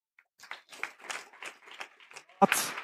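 An audience breaks into applause, starting with scattered, uneven claps that thicken into a steady patter and swell into a louder burst at the end.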